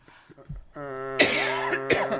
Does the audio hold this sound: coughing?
yes